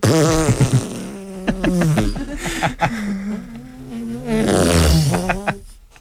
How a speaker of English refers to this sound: Prelude to a fart.